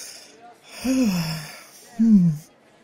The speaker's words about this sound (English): Just unbutton my dress here a bit. I'm having trouble breathing.